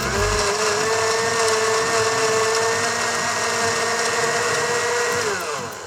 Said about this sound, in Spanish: Luego, llevamos todo a la licuadora y procesamos hasta obtener una crema suave y homogénea.